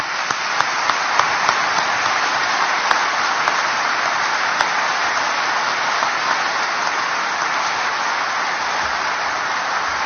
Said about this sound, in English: So let's give Mike and the entire Gilday family a round of applause.